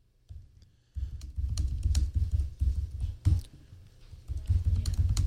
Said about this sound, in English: So I'm just typing into this, and so if I close this, it'll be.